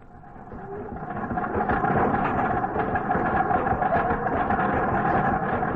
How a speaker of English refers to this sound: There comes McNally now in his car.